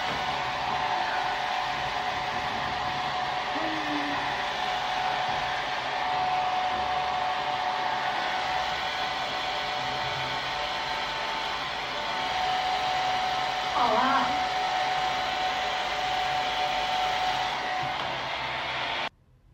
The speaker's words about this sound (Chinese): 雨可太大了，头发都湿了。衣服也湿了。你在哪儿拿的吹风机啊？你要帮我吹头发？这么好心啊你？